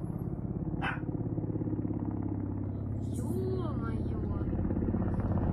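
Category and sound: vehicle, helicopter flying overhead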